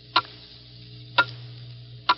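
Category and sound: household object, clock ticking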